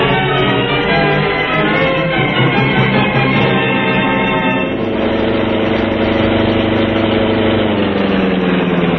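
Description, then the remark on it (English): Murdoch's car, up ahead at a farmhouse in a Green Hornet radio drama, idles in a steady, loud, low rumble with a buzzing harmonic drone, its tone shifting midway and creeping slightly higher toward the end. No one speaks. “Yeah, there's Murdoch's car up ahead.”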